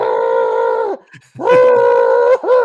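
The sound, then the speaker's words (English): A man who lost control on rollerblades, hit an outdoor wall and broke his ankle lets out two long, loud, strained howls of pain from under a mat, each wail held steady before breaking off, with a short ragged gap between them. “Because he's still smiling, even though the guy is clearly howling in agony under that mat.”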